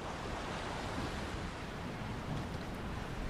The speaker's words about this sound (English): As they both sat on the patio listening to the ocean waves